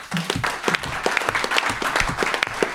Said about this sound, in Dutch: Dus ook ja, daar toch wel even een applaus van aanwezig voor.